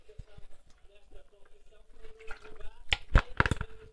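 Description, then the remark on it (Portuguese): Water is poured, a steady trickling resonance building up, followed by a few sharp clunks and knocks of a glass or bottle being handled near the end. “Deixa-me ver aqui água.”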